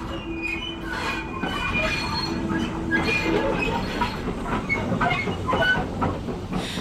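A train rolls into a station, its steady rumble overlaid with high metallic squeals from the wheels and brakes as it slows to a stop, fairly loud and continuous throughout, with no voices.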